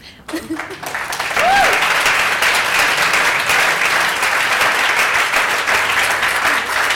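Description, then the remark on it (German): Audience applause for two graphic designers on stage swells in after a brief moment and holds steady: dense, continuous clapping from many hands, loud and sustained for several seconds, with a short voiced sound near the start. “Ja, großer Applaus!”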